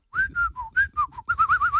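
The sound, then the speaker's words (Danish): A person whistles a short tune, a string of clear, bright notes rising and falling in pitch, some held and some quick, fairly loud with no talking. “Hvordan, men hvordan kan du være så god til at fløjte?”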